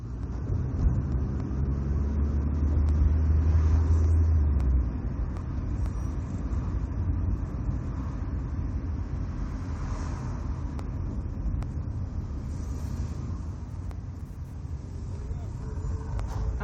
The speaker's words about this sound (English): The car slows down to go over a second speed bump in front of a storefront where parked cars sit next to a neon orange road barrier.